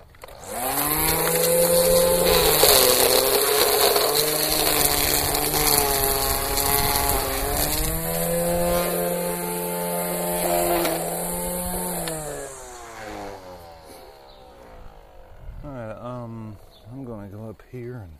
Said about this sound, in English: To the backyard and trim next to the sidewalk. These trimmers can be kind of tricky to learn how to use at first, too. You can chew up the ground pretty easy with them. There's an angle you can put them on.